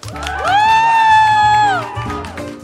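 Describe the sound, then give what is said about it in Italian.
A live audience at the Auditorium Demetrio Stratos cheers and applauds during a live broadcast of Radio Popolare's Il suggeritore Night Live, with one long, high whooping cry that swoops up and holds for over a second above the crowd noise before fading back into the clapping. “Perfetto, direi che possiamo chiudere qua perché è venuto bene l'applauso.”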